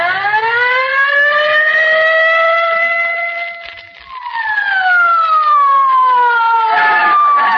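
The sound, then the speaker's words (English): A police squad car siren wails loudly on its own, a steady rising and falling howl that dips briefly midway, swells back up, then starts sliding down at the end. “Get in the squad car quick, Molly.”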